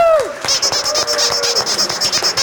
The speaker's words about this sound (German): Applaus für beide Teams.